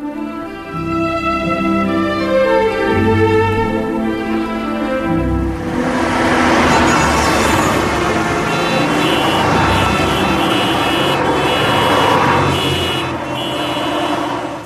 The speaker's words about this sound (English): In Spot the Sig, the team's challenge is to identify the name of a programme simply by hearing its signature tune, okay? So, here's the first one.